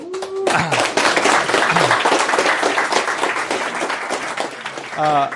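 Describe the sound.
A lecture audience breaks into loud, sustained applause for an invited guest speaker, lasting several seconds, dense and steady, with a man's voice briefly heard just before it starts and again as it fades.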